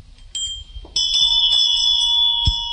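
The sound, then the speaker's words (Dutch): A small hand bell topped with a stylized vajra, kept in a collection, is struck about six times in an uneven rhythm, its bright, high metallic tone sustaining and overlapping between strikes. No one speaks. “Zo'n belletje komt zo, ja, verdwaald hier in een stellingkast terecht.”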